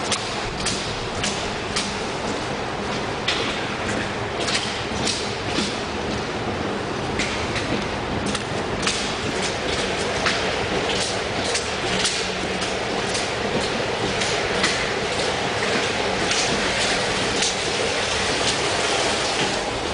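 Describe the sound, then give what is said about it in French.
A metro train rumbles loudly and steadily through an underground station, its continuous roar punctuated by repeated clacking and thudding wheels over the rails, with no voices. “C'est le temps de la station de métro, c'est tout.”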